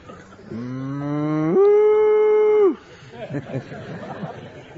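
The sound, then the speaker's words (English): A single long, loud moo that holds steady, then jumps to a higher, strained pitch before cutting off, followed by soft, indistinct chatter. “They began to moo in ecstasy.”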